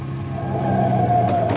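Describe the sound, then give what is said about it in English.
A truck engine drones loudly and steadily while the vehicle drives, its low hum holding constant pitch with a slight whine riding on top, and no voices. “I'll stop the truck.”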